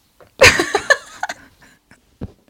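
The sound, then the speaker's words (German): A voice imitates a heavy, sinister exhale: one loud, raspy, growling breath out, followed by a few fainter breathy puffs trailing off. “Warum atmen eigentlich die dunklen Artefakten, schwarzmagischen Folgen immer so aus?”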